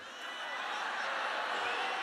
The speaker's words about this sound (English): Now, you just booed Obamacare. They will say Trump got booed when he mentioned.